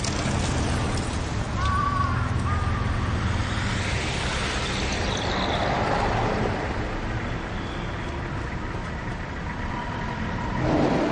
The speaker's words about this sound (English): wait for the lights to stop the traffic. Then collect your cracked nut in safety.